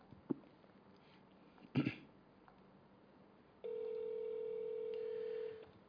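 A couple of brief clicks and a short burst of noise, then a steady electronic tone sounds for about two seconds and cuts off, as a mobile phone is called again after an unanswered call. No one speaks.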